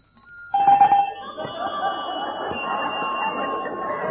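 household object, doorbell ringing

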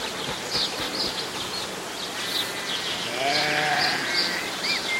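animal, sheep bleating

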